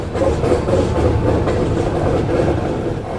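A freight train rumbles past a migrant shelter in Mexico, a steady, loud low roar with rhythmic clanking of wheels over track joints, continuous throughout.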